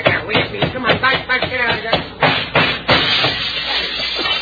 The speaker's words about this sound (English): Now, let's see. Where's the screwdriver and his hammer? I'm going to take this thing apart here.